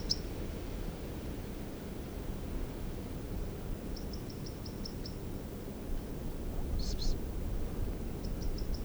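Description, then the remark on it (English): A bird gives a monotonous run of short, high chip notes in brief evenly spaced bursts, repeating the same thin note over a steady background hiss and low rumble. “And the call is just so, or song or whatever this is just so monotonous for a crossbill.”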